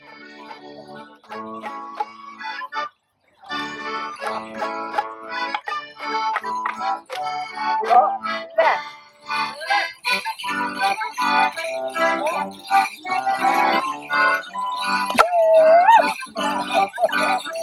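Noisy wassail festivities in an orchard in Arundel, Sussex: a crowd of voices sings, shouts and howls together in a loud, continuous jumble with rising and falling tones, after a brief pause near the start.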